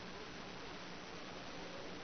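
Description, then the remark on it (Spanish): Steady, dense hiss of radio static fills the whole stretch at an even, moderate level, a continuous rushing crackle with no voices or breaks. “No lo escucho bien. La interferencia. Interference. La interferencia.”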